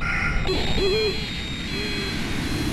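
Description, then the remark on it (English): A few low, hooting, owl-like bird-of-prey calls played from bird-deterrent loudspeakers lined along the grassy areas between tarmacs, over a steady background hiss. The hoots are brief and spaced apart, moderately loud, with no talking. “The sounds are sirens, birds of prey, coyote sounds, and guns. They're supposed to make the birds fly away immediately.”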